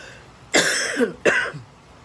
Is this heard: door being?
no